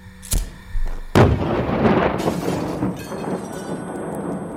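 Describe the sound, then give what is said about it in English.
A 13-kilo gas canister explodes inside a small caravan on a farm at 8:25 a.m., set off by a lighter: a sharp crack, then a heavy blast followed by several seconds of roaring, crackling debris and rumble that slowly fades. “At 8:25 a.m., an explosion ripped through Frenchall Farm as the little caravan erupted in a fireball of tangled metal, buckled frames, and flying glass shards, as beyond its flaming curtains, smoke billowed.”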